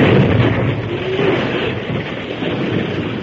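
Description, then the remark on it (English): A blasting powder explosion gives a loud, continuous rumbling roar that fills the whole stretch at a steady, heavy level, with no sharp single crack and no voices. “Then, at a word from the masked man, the first explosion was set off.”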